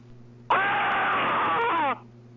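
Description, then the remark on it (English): A man, a hotel manager, picks up the phone and lets out a single loud, sustained scream lasting about a second and a half, with a thin, band-limited telephone quality, then it cuts off abruptly into a low hum as he hangs up. “Literally just picked up the phone and screamed.”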